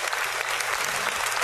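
A golf clap: a short burst of polite, steady applause from several pairs of hands, the claps blurring into an even, dense patter with no voices over it.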